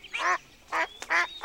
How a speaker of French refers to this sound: Il y a aussi 14 canards.